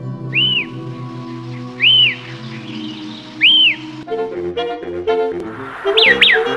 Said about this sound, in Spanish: Y botando el agua de su balde regresó al pozo, donde solo encontró al pícaro pájaro fío-fío silbando su característico canto.